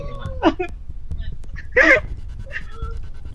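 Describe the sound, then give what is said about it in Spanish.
A woman crying: two strained, wavering sobs break out a second or so apart, with quieter shaky breaths and whimpers in between and a low background hum. “¿Estás llorando”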